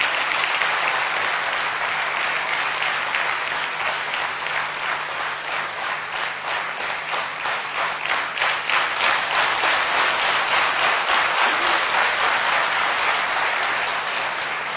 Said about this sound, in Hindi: ज्ञान सरोवर की इस मस्त बहार में गुल खिले गुलजार में तालियों की गड़गड़ाहट पुनः हो जाए भ्राता गिरीश पटेल जी के इंतजार में।